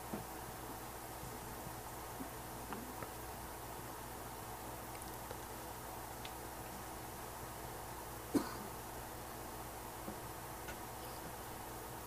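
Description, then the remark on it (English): A single short cough sounds off once, standing out against a steady low background hiss along with a few faint ticks and small knocks. “Cough, chair, gurgling stomach,”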